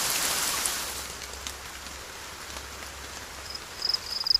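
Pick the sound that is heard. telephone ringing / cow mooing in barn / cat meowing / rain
rain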